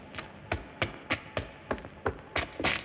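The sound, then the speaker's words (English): Footsteps in a steady walking rhythm, about ten firm thudding steps over a few seconds, each a short sharp tap with a dull low thump beneath it, and no voices. “I hear footsteps.”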